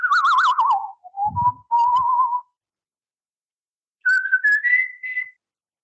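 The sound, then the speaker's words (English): Loud human whistling: a warbling trill that slides down, a few sustained notes with a brief low thump, then a pause before two rising whistled tones. “They'd be blown out by that whistling.”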